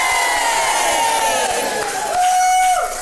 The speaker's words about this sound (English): When I get down to one, just cheer like you've never fucking cheered before. 3, 2, 1, record. Yay!